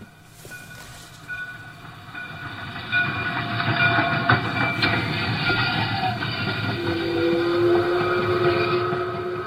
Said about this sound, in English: For the past 28 years, Roy Affey has charmed visitors in Alpine with a train that he constructed and operated for children of all ages. His Descanso, Alpine and Pacific Railway included a 1935 locomotive and riding car, 5 stations